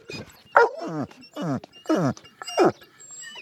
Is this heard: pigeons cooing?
no